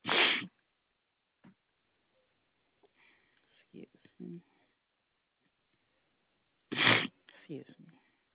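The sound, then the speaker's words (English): Two loud, explosive sneezes, roughly six seconds apart, with quieter sniffs and soft muffled vocal sounds in between and just after the second one. “Are you sneezing?”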